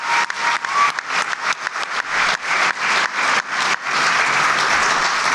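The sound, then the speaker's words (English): A crowd bursts into loud, sustained applause, dense rapid clapping with a few whoops and cheers mixed in, building into a steady roar by the end, with no talking over it. “Yeah, everybody give them a round of applause.”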